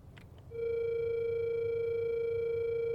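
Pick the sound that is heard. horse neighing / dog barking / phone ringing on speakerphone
phone ringing on speakerphone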